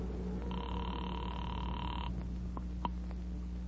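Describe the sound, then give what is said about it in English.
A single ring of a telephone after a number is dialed from a phone booth, heard as a steady electronic tone lasting over a second over a low background hum, followed by a couple of faint clicks as if the line is picked up. “I walked across the street, stepped into a phone booth, and dialed my own number.”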